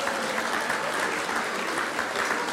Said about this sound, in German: Wiesn ist praktisch schuldenfrei und liegt auch in Burgenland an 1. Stelle. Na, da hat es natürlich einen Applaus verdient.